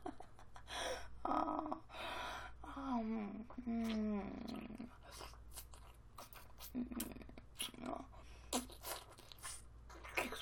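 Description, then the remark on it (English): A person makes low, throaty growling sounds in a few drawn-out bursts, mixed with breathy gasps and soft mouth noises over a steady low hum. “Oh, if you keep growling like that, I will think there's a wild animal out here.”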